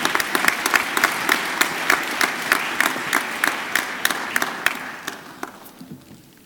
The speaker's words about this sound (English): Maybe we can give a big applause still to Bastien de Guenere.